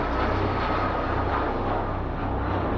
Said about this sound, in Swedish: Ett privat jetplan lyfte från Riyadh. Det är samma plan som ofta används av den saudiska regimen. Ombord finns 9 passagerare. De är allihop saudiska agenter.